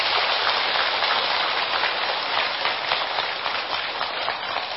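A crowd claps at a commendation ceremony honoring a venerable Buddhist monk from Australia, a steady, dense wash of applause, many hands blending into a continuous crackling roar that holds its loudness throughout with no voices over it.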